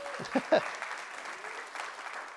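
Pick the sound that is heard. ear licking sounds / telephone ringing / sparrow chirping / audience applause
audience applause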